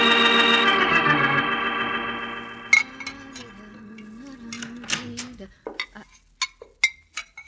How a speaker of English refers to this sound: keep on washing your dishes.